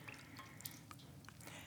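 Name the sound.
water dripping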